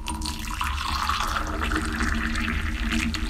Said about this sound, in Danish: To eksempler på vand, som jeg formoder er forskellige temperaturer, der bliver hældt op i en kop.